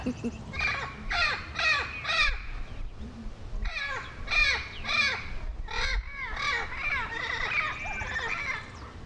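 A bird screeches like an owl over and over, harsh raspy calls coming in quick clusters of three or four, loud, with a low background rumble and no one speaking.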